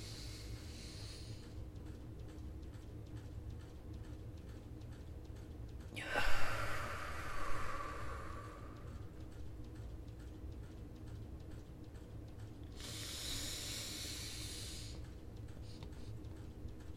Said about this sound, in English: That's box breathing. Okay. That's box breathing. You do 4-4-4.